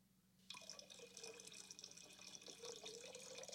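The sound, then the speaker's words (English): Coffee is poured steadily into a cup, a continuous splashing stream that starts abruptly and runs for about three seconds, its pitch rising slightly as the cup fills. “Oh, no, she's going to pour it right on her brain.”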